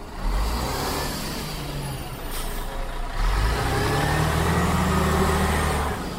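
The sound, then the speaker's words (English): A bus engine idles with a low rumble, then revs and accelerates, its deep drone rising in pitch over a steady wash of loud road noise. No one speaks. “But let's say I managed to persuade the driver of this bus to take me from Slovenia to Serbia.”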